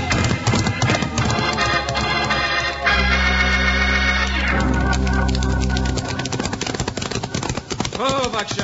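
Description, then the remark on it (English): Galloping horses, including ones named Buckshot and Joker, being ridden: a rapid, rhythmic clatter of hoofbeats running steadily throughout, mixed with sustained tonal sounds and brief vocal bursts. “And that's where we turn around, Jingles. Whoa, Buckshot. Whoa, boy. Whoa. Turn around? That's right. And now we do some riding.”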